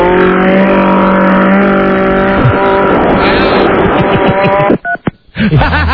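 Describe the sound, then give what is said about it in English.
A lawn edger's small engine roars loudly and steadily with a harsh grinding rasp as it is used to cut a brand new phone in half, then sputters and cuts out briefly before revving back up. “Oh, a lawn edger”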